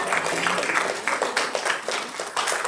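A crowd applauds steadily after a woman shares her testimony, a dense wash of many hands clapping at once, sustained for a few seconds without fading.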